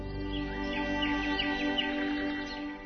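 Birds sing and chirp in quick, overlapping bursts over a steady low humming drone, a busy dawn chorus that holds at an even, moderate loudness throughout.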